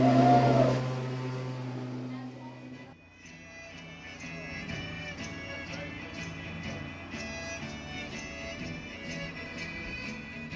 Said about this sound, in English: got this machine running outside that is part of an airplane fuselage, and then it has some bombs on it, and it has a really small like lawnmower engine, and they're driving around the parking lot at about 2 miles an hour and just whooping it up.